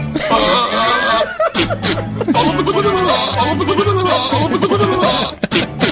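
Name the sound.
goat bleating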